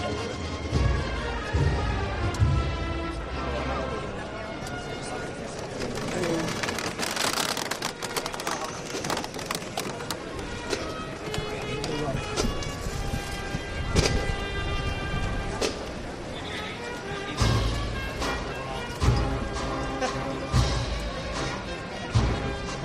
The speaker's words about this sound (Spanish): Ahora suena ya de nuevo el martillo y el paso que queda detenido frente al palquillo del Consejo de Hermandades.